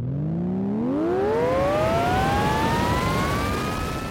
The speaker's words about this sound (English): She's worried it's broken, but she twists it on as they thunder towards the poacher's smoking wreckage, and it comes alive with an energetic hum.